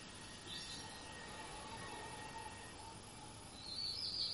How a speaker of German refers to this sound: Denn dann wird das Zwitschern eins mit uns. Dann gibt es zwischen das Zwitschern und dem, was das wahrnimmt, keine Trennung.